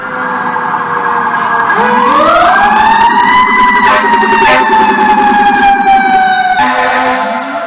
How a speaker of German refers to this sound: Ja, so klingt Amerika, Heimat der coolsten Feuerwehrautos der Welt.